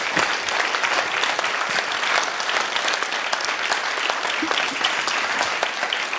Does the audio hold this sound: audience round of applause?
yes